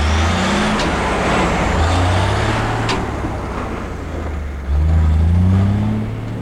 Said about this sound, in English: The semi's trailer grows smaller as it moves further down the road.